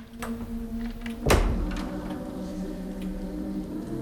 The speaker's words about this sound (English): Slipping into the hall, she gently shuts the lab door behind her.